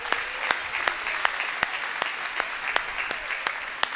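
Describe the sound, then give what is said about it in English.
A church audience applauds a young woman as she comes up to the front, with loud, sharp claps landing on a regular beat about three times a second over a dense wash of scattered clapping. No one speaks. “Y'all give her a hand clap as she comes.”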